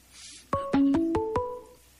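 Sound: phone ringing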